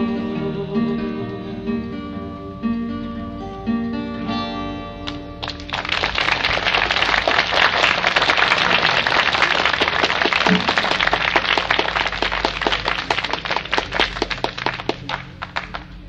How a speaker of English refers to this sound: Raining. Again. Over and over. Floridians must be a hardy people to come out in this kind of weather and watch something like this.